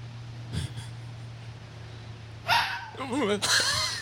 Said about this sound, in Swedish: Rådjur! Två. Rådjurskill! Noll, det blir poäng till mig!